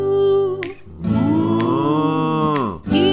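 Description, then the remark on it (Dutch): A cow moos loudly, two long, drawn-out bellows with a rich harmonic tone, the second one sliding down in pitch before a short breath and another start. “Het varken gaat mee. En de koe.”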